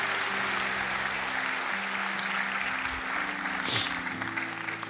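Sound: audience applause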